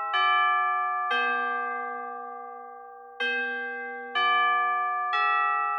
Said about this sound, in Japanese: え？何？なんでそんなにチャイムが鳴るの？何のチャイム？放送部に私のことが嫌いな人いる？そんな短いスパンでチャイム鳴ることある？